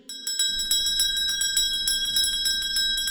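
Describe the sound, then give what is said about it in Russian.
A small bell rings rapidly and continuously, its bright, high, silvery tinkling repeating in quick strokes for about three seconds and filling a room, with no voices. “Вся комната полна серебряным звоном. Колокольчик звенел,”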